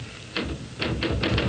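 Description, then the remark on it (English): Several sharp mechanical typewriter key strikes in an uneven rhythm, fairly loud, with no one speaking. “Listen, will you knock it off with the typing and look at me for Pete's sake?”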